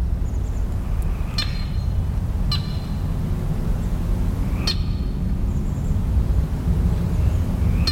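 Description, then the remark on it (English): A handful of sharp check calls from a lone red-winged blackbird ring out at irregular intervals over a steady low rumble, with faint croaks of a solitary Pacific chorus frog, in a marsh on Saturna Island, British Columbia. “Airplanes and jets pass in the distance, check calls of a lone red-winged blackbird and the croaks of a solitary Pacific chorus frog are heard.”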